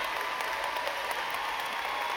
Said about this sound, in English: Give him a round of applause for his effort right there.